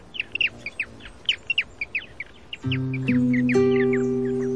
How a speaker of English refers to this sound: This sound is courtesy of the Cornell Lab of Ornithology, allaboutbirds.org, I think. The amazing aerialist, the swift.